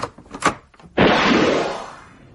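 door opening sound effect

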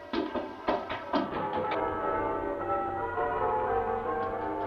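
bells ringing

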